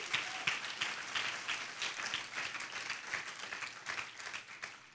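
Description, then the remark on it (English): A church audience gives a hand clap for Jesus Christ, celebrating almost 50 people from the church going to other nations, with steady, dense hand clapping that fills the whole stretch, many hands overlapping into a continuous crackling roar without pause or voices. “Give Jesus Christ a hand clap for that.”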